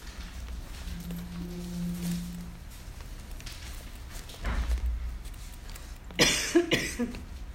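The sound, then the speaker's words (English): A few harsh coughs from a tickle in the throat burst out near the end, following a quieter stretch with a low hum and a muffled thump. “I got a tickle in my throat, and you know where that goes, right? Ooh, I got a cough.”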